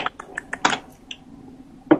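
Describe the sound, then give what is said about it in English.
A quick run of computer keyboard keystrokes, typed to pull up a list of Unity games in a web browser, sharp clicky taps in an uneven rhythm, bunched in the first second, followed by a pause and then one louder final tap. “I hear Keith strokes.”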